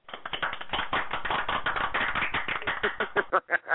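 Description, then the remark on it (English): A group applauding to honor a mother who is finishing her master's degree: a dense patter of overlapping claps that holds steady, then thins out into a few scattered, separate claps before stopping. No one speaks. “We should applaud mother and her master's degree, everybody. We're applauding mother and her master's degree.”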